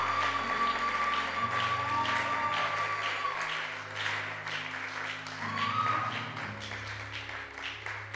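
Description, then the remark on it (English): An audience claps steadily and energetically for several seconds to show gratitude to God, with crowd noise and possible shouts blending in over sustained organ or keyboard chords that shift underneath. “If you know you are forgiven, show gratitude to God by shouting, by clapping, by rejoicing.”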